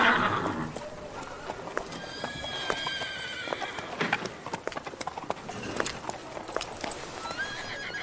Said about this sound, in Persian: نه من اسب کوچیکو میخوام. یه کره اسب.